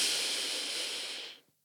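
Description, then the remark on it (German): One long, deep belly-breathing inhale during a group breathing exercise, a steady airy rush of breath held for over a second before it stops abruptly. It is fairly soft, with no talking. “Zum Beispiel ganz simpel mit tiefer Bauchatmung. Machen wir jetzt mal alle zusammen. Atmen mal ganz tief ein.”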